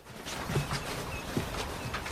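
Heavy footsteps of a person stomping into a bedroom, five or six firm thuds in an uneven, hurried rhythm, with a faint hum beneath and no voices.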